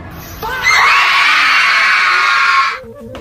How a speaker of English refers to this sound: That was bad. The crowd was going crazy.